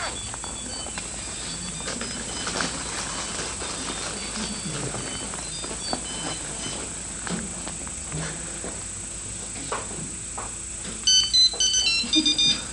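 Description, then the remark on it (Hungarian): A mobile phone rings with an incoming call near the end, a short burst of bright electronic ringtone notes cutting through a steady background hiss after a stretch of low, muffled room noise. “Egy pillanat, mert valaki engem a mobilon hív, tehát legalább annyit megmondok neki, hogy hívjon később.”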